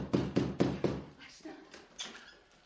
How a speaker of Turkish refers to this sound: Kapı çalıyor. Açsana şu kapıyı. Ah tamam baba tamam. Açıyorum hemen. Açıyorum. Kapı yıkılacak neredeyse. Açsana şunu.